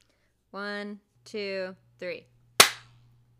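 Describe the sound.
A single sharp hand clap rings out with a quick decay, right after a voice counts "1, 2, 3", with a low steady hum running underneath.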